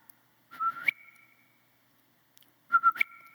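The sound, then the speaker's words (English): Two short, loud dog-whistle calls sound, each a quick warbling burst that settles into a steady held tone, with a brief quiet gap between them. “This is my dog whistle, all right?”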